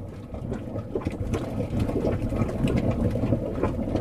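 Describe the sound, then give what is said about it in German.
A hot mud pot at a hot spring in Iceland bubbles steadily, a dense low gurgling packed with quick irregular plops and thick smacking pops, holding a fairly even loudness throughout with no voices. “Hier brodelt ein Schlammtopf auf Island.”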